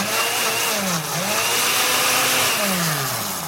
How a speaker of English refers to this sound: As far as I can tell, there's no mold, though, so let's just throw in some of these strawberries here, and we'll get the blender going. All right. Make a little smoothie here. Okay, here we go.